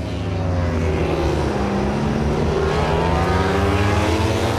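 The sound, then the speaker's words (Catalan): Three MotoGP racing motorcycles at the front of the race, ridden by Marc Márquez, Marco Bezzecchi and Acosta, roar past at high revs, their loud, overlapping engine whines rising and falling in pitch without a break. No one speaks. “Estem sentint aquestes tres motos del davant.”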